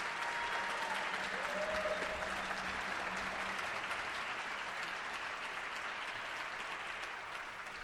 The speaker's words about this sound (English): could we have one more round of applause for this fabulous orchestra?